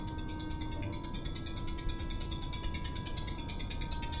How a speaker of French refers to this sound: C'est un modèle de drone de combat miniaturisé. Il est sensible au mouvement.